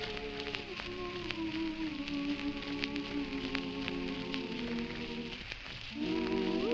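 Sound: autumn rain falling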